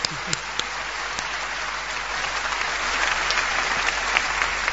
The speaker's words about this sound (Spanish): Está muy bien. Está muy bien. Hay que aplaudir a Albert Camus, por favor.